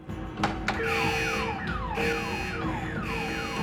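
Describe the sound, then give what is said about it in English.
An alarm blares continuously with repeating falling electronic tones, loud, cycling steadily over a few seconds with no voices present. “Matt and Ted hear the alarm.”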